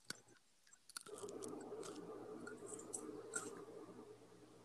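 Crunchy chewing of food near the microphone, a few sharp bites at first and then a steady, noisy stream of mastication that keeps going with small crackling peaks, with no talking.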